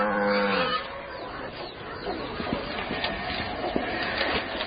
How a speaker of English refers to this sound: As well as the school, the cave houses 18 families, together with their livestock. These could be the only cave-dwelling cows on Earth.